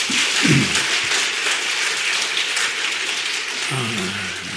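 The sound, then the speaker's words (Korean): A church audience claps steadily and loudly throughout, a dense, noisy wash of applause with a few brief low voice-like bursts mixed in near the start and end. “네, 박수 한번 칩시다.”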